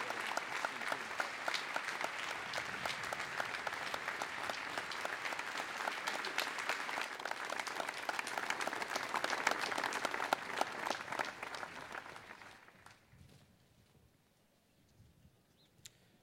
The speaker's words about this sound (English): Now, if I could ask the audience for one more round of applause. It is Mr. Giuliani's birthday today, and we're so grateful that he could attend.